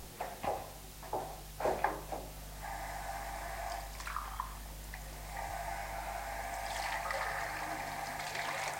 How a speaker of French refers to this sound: fait la vaisselle.